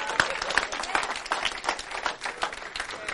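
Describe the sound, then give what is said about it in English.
A crowd claps steadily and densely throughout, with scattered voices cheering and whooping among the applause, loud, filling the whole few seconds without a break. “Now listen, man, clap and cheer, because come December, when it's cold, rainy, and wet, you're walking two blocks to church.”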